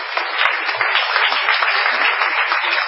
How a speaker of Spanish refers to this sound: Bueno, un aplauso para el querido Gabriel, que debe haber tenido o tiene un gran profesor de canto. Vamos a aplaudir a Gabriel Rolón.